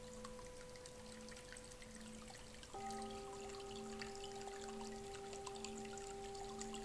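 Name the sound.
water being poured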